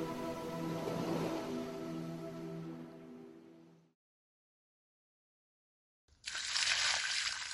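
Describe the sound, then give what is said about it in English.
A steady tonal drone fades into silence, then a sudden loud rush of splashing water bursts in as cold water from an old tin bucket is thrown onto a person. “Suddenly, I got splashed with cold water.”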